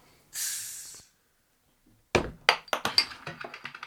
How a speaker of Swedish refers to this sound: Skölja glaset också.